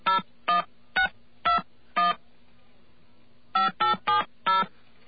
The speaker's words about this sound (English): All right. And we're going to dial a number now. Okay, let's call a number at random in Rhode Island.